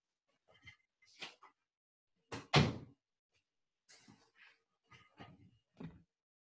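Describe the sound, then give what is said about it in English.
An office door is closed with a solid thud in the middle, surrounded by scattered handle clicks, creaks and soft knocks, otherwise quiet, with no one talking. “I'm gonna close my office door and see.”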